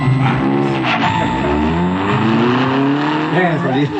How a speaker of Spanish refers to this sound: Allí vamos, Calimán aborda el auto acompañado del pequeño Solín y juntos abandonan la elegante mansión de Ferrison.